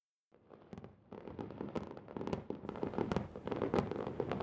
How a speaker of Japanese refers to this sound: 生で打ち上げ花火を見るのなんて何年ぶりかしら。あ、今のすごい。大きい。